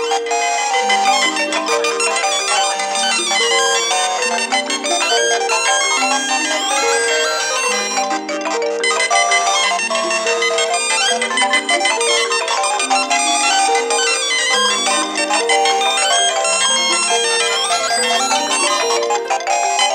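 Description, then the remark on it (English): A dense, loud clash of the electronic ringtones of a collection of phones sounding at once after a call from a Siemens cordless phone, overlapping melodies and beeping tones piling into a continuous chiming cacophony for the whole stretch, with no one talking. “wonderful cacophonic sound of all these things going off at once”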